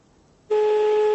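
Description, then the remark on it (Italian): A telephone ringback tone from a dialed call starts partway in, a steady electronic hum of two blended pitches that holds unbroken and fairly loud to the end, with no voices. “Questo squillo io lo sento pianissimo, vediamo”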